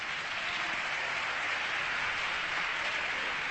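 applause in parliament

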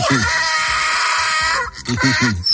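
donkey braying

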